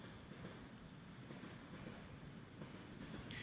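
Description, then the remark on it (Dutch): A faint, steady low rumble of a train passing by a park near a station in Hasselt, with a soft windy hiss over it and no voices. “En u hoort het misschien op de achtergrond, de trein die komt hier voorbij.”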